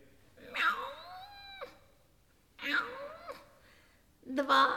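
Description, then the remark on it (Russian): Three drawn-out cat meows, each rising and bending in pitch, separated by short pauses, with the last one cut off at the end. “Эй ты, кошка, не худо бы тебе и со мной заключить договор.”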